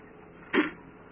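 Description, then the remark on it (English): A door is pushed shut with a single short clunk that stands out sharply against a low, steady background hum, then quickly fades. “Could just close the door for us, man, if you don't mind.”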